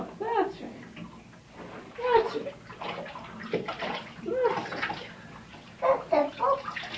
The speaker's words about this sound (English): Rinse the soap off your hands. In the water. Put your hands in the water.